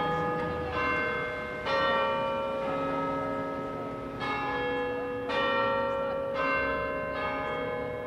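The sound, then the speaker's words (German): A clock tower bell in the government quarter in Wales chimes a slow Westminster-style sequence copying Big Ben, with resonant strikes, each note ringing on and overlapping the next, fairly loud and clear with no talking. “Selbst der Glockenschlag kopiert Big Ben.”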